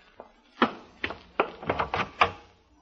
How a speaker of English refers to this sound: Open the door and I'll be right in.